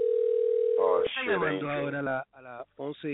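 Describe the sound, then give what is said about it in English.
A steady, single-pitched ringback tone hums for about a second as an outgoing call to a friend rings unanswered during a live show. It then cuts off while a voice begins talking and carries on alone. “We're trying to call a buddy of ours, pero tiene miedo.”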